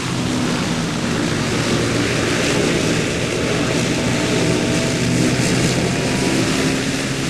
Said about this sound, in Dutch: Door een aantal milieugroepen is protest aangetekend tegen het lawaai dat gemaakt werd door deze hovercrafts, die een topsnelheid van meer dan 100 km per uur kunnen halen.